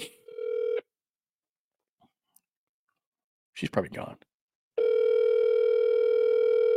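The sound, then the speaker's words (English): A phone call dialing on speakerphone: a short burst of steady buzzing tone, a pause with a brief spoken remark, then the same droning tone resumes and holds loudly. “I'm going to talk to her while I'm... Hang on one sec. I'll put her on speaker so you can hear.”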